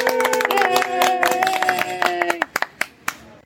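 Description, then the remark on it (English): A small group on a cruise ship claps together in a brief burst of applause, dense at first, then thinning to a few scattered, separate claps before fading out, with a faint tonal hum beneath the opening. “Round of applause.”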